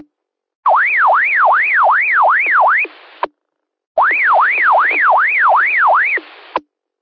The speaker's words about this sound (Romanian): Acum chiar zic, chiar la final. 73, dau 2 bipuri, așa și gata, primit.